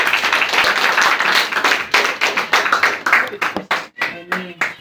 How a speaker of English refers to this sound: Y'all come on and give me one another hand clap of praise for the words.